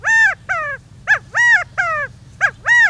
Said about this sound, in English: An Australian laughing kookaburra guffaws in the depths of the Florida Everglades, startling a lost pair of escaped convicts.